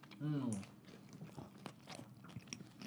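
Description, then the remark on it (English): A short voiced murmur, then steady, fairly loud crunching as someone chews a crunchy Burger King taco, irregular crackly bites continuing for a few seconds with no words spoken. “Can we start every show just eating Burger King tacos? This is really good.”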